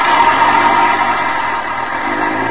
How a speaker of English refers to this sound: I ducked behind a post and waited. Waited until the bus pulled out.